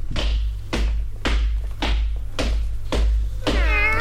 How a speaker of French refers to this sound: En chemin, il rencontra 3 bébés chats adorables. Mais Jordan comprit vite qu'il s'agissait d'un lion, d'une panthère et d'un guépard. Les 3 animaux essayèrent de lui parler, mais Jordan ne comprenait rien à leur baragouin.